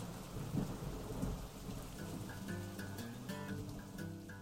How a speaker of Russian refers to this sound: Начался дождь.